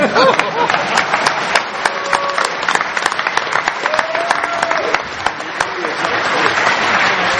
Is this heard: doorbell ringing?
no